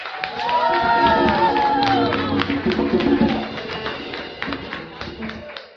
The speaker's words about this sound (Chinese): 那我们是不是再给自己再一个热烈的掌声？